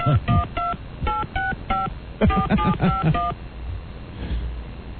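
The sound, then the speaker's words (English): A phone number in New York is dialed at random as a quick run of touch-tone beeps, two bursts of about half a dozen tones each, clear, then the line goes quiet. “I don't know any of the phone exchanges in New York. So I'm just dialing at random.”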